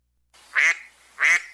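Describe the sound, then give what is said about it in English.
Two loud, nasal duck quacks, played as a sound effect from a soundboard, evenly spaced about half a second apart, with a faint hiss between them and no talking. “I have no idea why I would use a duck unless I want to talk Oregon ducks, which I don't.”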